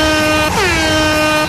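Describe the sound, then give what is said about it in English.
A loud, sustained klaxon sound effect, signalling the start of the Where's Alan game, blares for the whole clip, a brassy multi-tone horn whose pitch dips briefly partway through before holding steady again, with no voices. “We have a big klaxon sound effect, no expense spent.”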